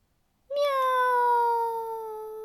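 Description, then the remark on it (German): A single long, drawn-out meow from a spotted cat stuck up a tree, loud, starting abruptly and holding a steady, slightly falling pitch for about two seconds before fading a little at the end. “Macht die gefleckte Katze wieder und Frau Usebuse denkt nach.”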